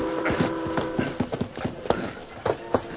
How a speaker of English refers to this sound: The great-hearted stallion Silver seemed to sense that something was wrong and bent his efforts to greater speed